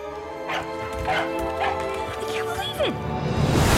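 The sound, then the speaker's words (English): A dog, Sparky, barks several times in quick, uneven succession over a dense background of tones and rumble that swells louder toward the end. “Your dog is alive!”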